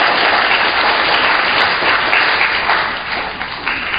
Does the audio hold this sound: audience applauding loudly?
yes